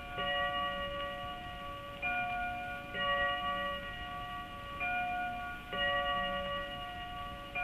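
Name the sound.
clock striking twelve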